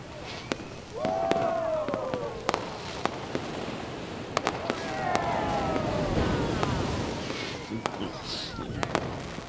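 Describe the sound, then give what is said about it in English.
A fireworks display at a party on a yacht bursting: scattered sharp bangs and crackles at irregular intervals, with whistling rockets sweeping up and down over a steady low rumble. “He's throwing a party on a yacht. With a fireworks display.”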